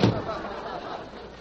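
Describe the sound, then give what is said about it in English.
A single heavy thud against a door at the very start, loud and low, then the sound trails off into a steady murmur of background noise. “Did I hear somebody knock? Yes, I heard somebody knock.”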